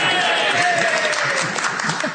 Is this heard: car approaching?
no